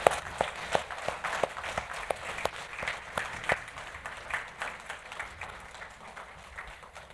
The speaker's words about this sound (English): Church, can we give another applause to the choir and all that they did?